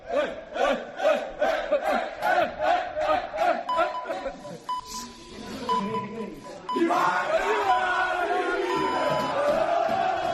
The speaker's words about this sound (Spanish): esta es la fiesta del vestuario del Valencia después de la victoria. La imagen es los jugadores todos en la plantilla gritando y esperando que llegue Corberán para ver cuántos días de libranza o si le da algún día de libranza después de la victoria.